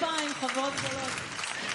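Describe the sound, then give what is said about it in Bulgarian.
Steady audience applause fills the whole stretch, a dense crackle of many hands clapping, with a voice speaking over it. “Аплодисменти, велики приятелки.”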